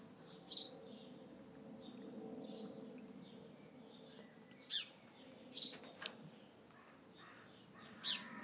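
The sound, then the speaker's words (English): Several harsh crow caws sound out in separate bursts, one early, then a cluster of three or four later, over a steady low outdoor hum in a quiet residential neighbourhood on a cold day with clouds over the sun. Nobody speaks. “Oh, the noisy old crows have always got something to say.”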